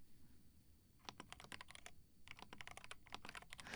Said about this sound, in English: Like, listening to me typing on my keyboard, right? And not me hitting you with it? I still don't understand why you'd want to. It doesn't sound very good, but sure. Just keyboard sounds until you fall asleep, okay?